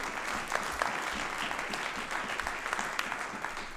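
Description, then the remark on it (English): An audience claps steadily, many hands blending into a dense, continuous wash of applause with scattered sharper claps standing out, holding a fairly even loudness throughout. “Somebody say amen and clap your hands if you agree with me.”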